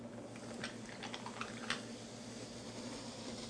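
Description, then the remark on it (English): Soda is poured into a glass of ice, giving a steady fizzing hiss with a few quick crackles and clinks in the first two seconds, over a constant low hum. No one speaks. “We're going to take one glass and pour some soda into it, just as you normally would.”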